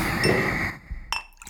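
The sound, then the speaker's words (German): A non-alcoholic drink is poured into a glass in a cool cellar, a steady splashing gurgle with a ringing glassy tone, followed after a brief pause by a couple of light glass clinks. “Also auf den Schreck, auf die Frage, gieße ich mir erstmal wieder was ein.”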